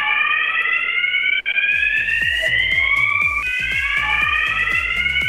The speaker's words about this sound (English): This was all news to us. We didn't realise that a lot of workplaces do have alarms to signify things like lunch.